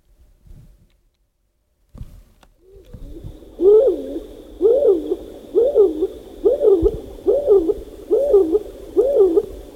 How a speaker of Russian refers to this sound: У тебя дома есть своя горлица. Ну, они по одной не ходят. Они всегда... Вдвоем? Вдвоем или даже две парочки дружат.